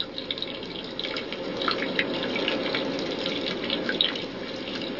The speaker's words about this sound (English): The reeds must be watered once again, this time from hand-carried jars, before the work can resume.